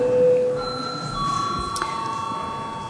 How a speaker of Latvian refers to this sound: Lūdzu zvanu. Lūdzu balsošanas režīmu.